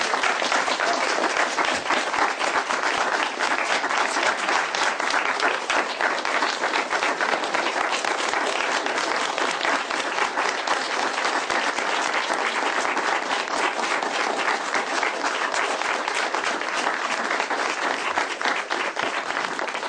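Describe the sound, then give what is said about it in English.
An audience applauds steadily for about twenty seconds at a council meeting, a dense, even wash of many hands clapping at once with no voices standing out and no clear rise or fade. “We don't applaud in here.”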